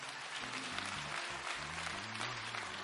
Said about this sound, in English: Let's give our visitors a hand clap.